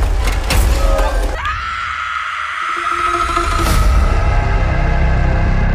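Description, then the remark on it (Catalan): A loud, sustained scream from the horror film Final Destination: Bloodlines (Destino Final: Lazos de Sangre) rings out for several seconds, holding one piercing pitch after a brief burst of crashing, rumbling movie sound effects. “I amb aquest crit, doncs, obrim les novetats amb aquesta pel·lícula Destino Final, Lazos de Sangre, que és una nova entrega d'aquesta franquícia Destino Final”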